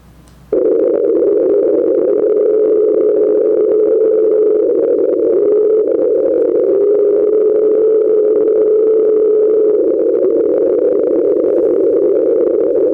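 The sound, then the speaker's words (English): The unexplained recording nicknamed the Train, from the NOAA Pacific Hydrophone Array, first observed on March 5, 1997, played at its regular speed: a loud, steady low-mid drone that starts abruptly after a brief hush and holds unbroken for about twelve seconds, wavering slightly in pitch. “The train is going to be played for you at its regular speed.”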